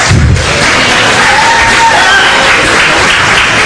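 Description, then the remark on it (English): A crowd at a talk applauds steadily with dense, loud clapping throughout, a few whoops and cheers rising above it, and a low thump at the very start. “That's for your applause.”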